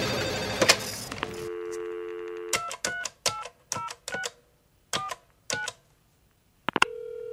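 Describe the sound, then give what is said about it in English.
A phone is picked up with a brief rustle, a dial tone hums, then about seven crisp keypad beeps are punched in at an uneven pace as a mobile phone number is dialed, before another steady tone begins. No one speaks. “The mobile phone customer you have called has travelled outside the coverage area.”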